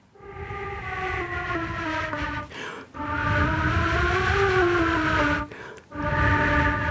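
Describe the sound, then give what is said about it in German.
A flute softly imitates quiet wind noises with three long, breathy sustained notes that slowly rise and sag in pitch, separated by short pauses for breath, over a rushing airy hiss. “Ich kann leise Geräusche machen, Windgeräusche.”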